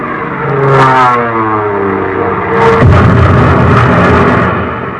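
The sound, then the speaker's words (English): A warplane diving in on a bomb run against a submarine: its engine roars in a steady, loud drone, its whining pitch sliding as it dives, with a rougher, harsher surge of noise rising in the second half. “Oh, well, there's the first one now coming in for a bomb run.”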